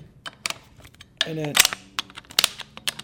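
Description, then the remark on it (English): Wooden letterpress type blocks clack and shift in a quick, irregular run of sharp knocks, with a brief voiced murmur partway through. “And then that's not my back, that's actually the wood type actually moving.”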